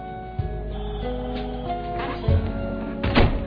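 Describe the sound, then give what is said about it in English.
The door of a men's room shuts with a dull, low thunk, followed by a couple more heavy knocks, all over a steady humming background with no one speaking. “Either whip one out or close the door.”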